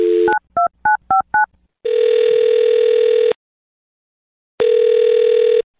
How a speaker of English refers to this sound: We'll find out. I'm going to dial this phone right now. Here we go.